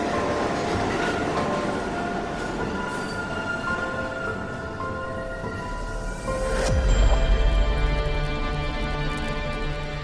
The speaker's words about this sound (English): When the Ferris wheel clatters to a stop, the carnival dissolves, taking its place at the subway station. A blast of wind across her face. Her train has arrived.